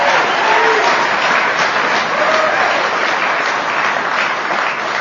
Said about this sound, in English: If you are new to Alcoholics Anonymous and you're wondering why they're applauding, they're not applauding for yours truly, because after I'm done, you'll be convinced that I ain't no big deal.